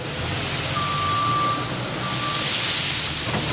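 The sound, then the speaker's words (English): In the hangar-like storage room at McCleskey Mills in Smithville, a front loader moving a mountain of peanuts into underground storage rumbles steadily under a broad wash of noise, while two long, steady mid-pitched reversing beeps sound one after the other. No one speaks. “A front loader is moving a mountain of peanuts into underground storage.”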